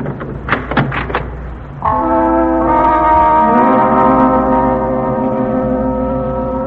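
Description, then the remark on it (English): A few quick metallic clicks and rattles of a key working a lock, then a door swings open with a long, loud, drawn-out groaning creak that holds steady for several seconds. “Here's the key. I'll open the door.”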